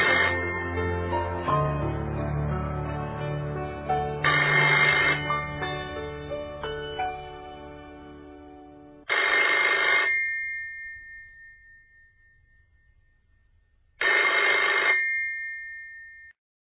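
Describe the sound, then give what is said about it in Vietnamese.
A telephone rings in repeated bursts as a call is placed to a telephone switchboard, each ring a bright, loud electronic trill lasting about a second, with pauses between, heard alone without any voices. “Tôi quyết định gọi điện đến tổng đài, hy vọng là cái tên và địa chỉ trên phong bì sẽ cho tôi biết những số điện thoại có liên quan.”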